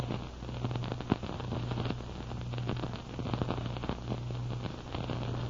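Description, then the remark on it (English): A driftwood fire crackles steadily in a snowy clearing in front of an igloo, with dense irregular pops and snaps over a low, constant hum. One sharper crack stands out near the start. No one speaks. “A big crackling fire of driftwood lighted up the snowy clearing in front of the igloo.”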